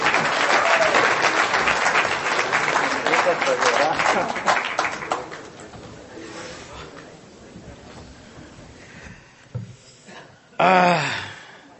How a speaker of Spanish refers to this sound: pero no importa, recibámoslo con un aplauso